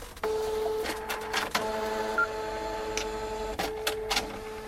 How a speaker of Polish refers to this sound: Wcześniej były na papier termotransferowy, także ta jakość była taka sobie. Tak to wyglądało, jak drukuje się paragony w sklepach.